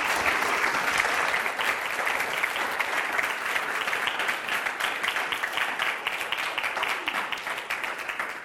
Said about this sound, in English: So why don't you give him a round of applause for coming here and sharing with us.